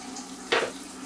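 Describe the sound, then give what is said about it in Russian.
A tap runs into a sink with a steady hiss, and a brief louder splash bursts out midway before the flow settles again. No one speaks. “Воду выключи за собой.”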